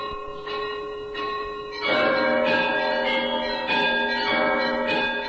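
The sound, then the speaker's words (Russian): A festive 'krasny zvon' peal of church bells, rung by bell ringer Alexander Dolgov, rings out continuously, several bells of different pitches struck in overlapping, energetic rhythm with long resonant tones, loud, no voices. “Красный звон.”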